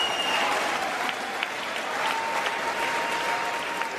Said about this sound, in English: Oh, lots of applause. They're just happy he made it to the podium.